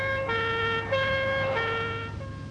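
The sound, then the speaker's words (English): Sirens of police cars filling a road, lights flashing, howl steadily, their tones shifting between pitches in a continuous wail, with a low engine rumble beneath and no voices. “Behind her, the road was full of police cars, with lights flashing and sirens howling.”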